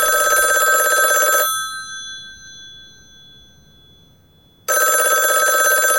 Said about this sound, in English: It's just a telephone.